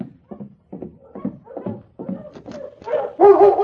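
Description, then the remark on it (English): A collie named Lady, part of a sled dog team, barks and whimpers in a run of short, excited yelps and whines, growing louder and more insistent toward the end. “Having trouble with your team? That one dog seems to...”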